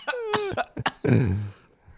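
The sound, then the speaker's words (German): A person coughing from snus withdrawal: a quick series of about four sharp coughs, followed by a longer throaty, groaning exhale that trails off. No talking. “Du ja husten.”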